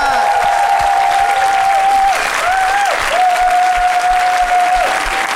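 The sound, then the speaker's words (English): An audience breaks into a loud, dense round of applause for a guest that holds steady for several seconds, with a long wavering whistle-like tone running through the clapping. “Can we give a huge round of applause to our guest,”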